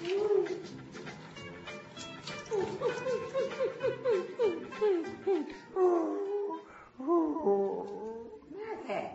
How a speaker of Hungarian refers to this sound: Azt hiszem, kutya. Tessék? Odakint a küszöbön.